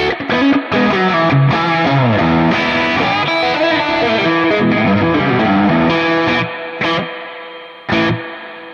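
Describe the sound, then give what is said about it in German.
An electric guitar plays a dense, sustained phrase through a Lush Spring reverb pedal, loud with no voices, ending in a few short stabs that ring out briefly. “Ich habe hier jetzt so einen Lush Spring.”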